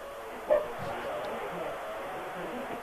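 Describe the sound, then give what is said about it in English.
A dog gives a short, muffled bark somewhere in the background near the start, then steady low room noise carries on with no further barks. “Can you tell that dog in the background to shut the fuck up?”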